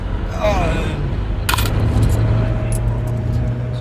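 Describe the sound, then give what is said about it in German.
A handful of coins drop and clink as change in quick, bright little taps, with one louder rattle first, over the steady low rumble of an idling vehicle. “Auf jeden Fall Kleingeld.”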